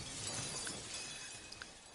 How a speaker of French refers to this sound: ils commencèrent ensemble leur musique à un signal donné. L'âne se mit à braire, le chien à aboyer, le chat à miauler, le coq à chanter, puis ils se précipitèrent par la fenêtre dans la chambre en enfonçant les carreaux qui volèrent en éclats.